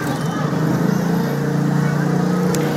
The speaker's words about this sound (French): Et si vous entendez le bruit du trafic, eh bien, c'est normal, puisque cette bibliothèque, elle se trouve nichée sous une voie rapide, sous un pont autoroutier à Jakarta, méga capitale de l'Indonésie.